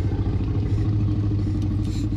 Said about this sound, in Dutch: En het grommende geluid van de Rex is niet afkomstig van een poedel, maar het is het vertraagde geluid van Buster, de Jack Russell Terrier van Gary.